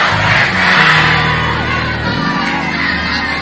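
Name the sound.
audience shouting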